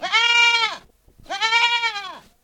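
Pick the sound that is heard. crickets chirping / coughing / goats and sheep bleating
goats and sheep bleating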